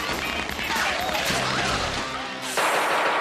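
Loud squib blasts, placed all over a room to fake gunshots in a bank robbery scene for the TV show Dog's World, crackle through a dense, chaotic wash of noise, with a brief voice in the middle and a sudden, harsher burst near the end.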